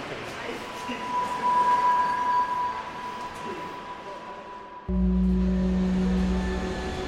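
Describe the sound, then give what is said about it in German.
Steady rumble inside a moving U1 subway car in Hamburg, with a high motor whine held throughout and a sudden surge of deep, heavy rumbling toward the end. “Auf der U1 treffe ich einen Berufspendler, der täglich 1,5 Stunden in Hamburgs U-Bahn verbringt und darüber twittert.”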